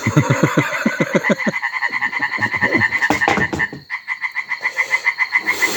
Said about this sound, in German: Will einfach mal in Ruhe im Garten sitzen und den Fröschen zuhören.